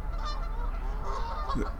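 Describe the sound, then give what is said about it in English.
A flock of Canada geese on a pond honks in a steady, overlapping chorus over a constant low outdoor rumble, with no one speaking. “Something's setting these geese off.”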